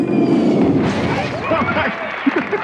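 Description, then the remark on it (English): A loud, rumbling explosion: dense low-pitched roaring noise with crackling debris that fades over a couple of seconds, ending in a few sharp pops. “A news report announced that the President of the United States, along with FEMA's Director Michael Brown, got blown to smithereens, flying to see the storm damage firsthand.”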